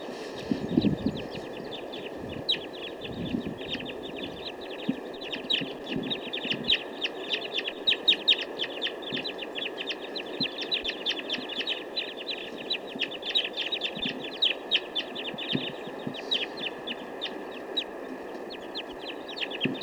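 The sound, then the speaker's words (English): A dense flock of birds, some being caught in a net, calls nonstop, with rapid high chirps and clucking notes overlapping in a busy, steady chorus over a constant background hum, with no one speaking. “Looks like the rest of the flock now wants to move on.”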